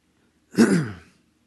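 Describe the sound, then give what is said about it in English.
A single rough throat-clearing sound from a person with a bad throat, fairly loud, lasting about half a second and trailing off, with quiet background before and after and no talking. “Everybody's had a bad day up here with their throats. So I'm going to try and get through this, but pardon my hacking away.”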